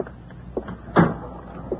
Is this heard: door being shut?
yes